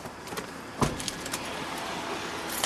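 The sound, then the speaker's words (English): An armored sport utility vehicle of the Colombian Interior Ministry races through city traffic in Medellín, with a steady road rumble and hiss, broken by a sharp thump and a few light rattles and clicks. No one speaks. “The driver is racing through Medellin's traffic.”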